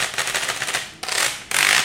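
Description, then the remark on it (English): A small, lingerie-sized washboard's rub board is scraped: a quick, rattling run of ridged clicks, then two longer, harsher rasping strokes that cut off sharply. Bright and crisp, with no talking. “It's what they call a lingerie-sized washboard.”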